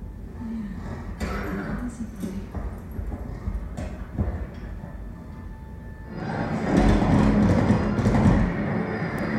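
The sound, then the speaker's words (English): Horse hooves clip-clop over a dense, rumbling background, with scattered sharp knocks early on and the whole commotion growing louder and busier in the last few seconds. “Why don't you leave that motherfucking horse alone?”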